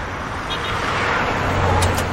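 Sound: car driving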